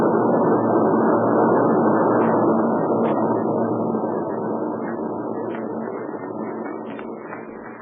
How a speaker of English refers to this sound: Meanwhile, let's stay right here where we are until those warbirds get out of sight. We can spot them, but we don't want them to spot us.